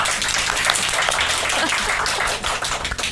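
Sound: applause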